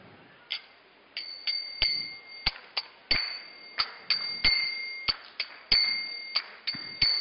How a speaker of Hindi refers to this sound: और बहुत बहुत ही सरल उपाय, सिर्फ आपको ये जो करताल के माध्यम से आपके हाथ में ताली बजाना है।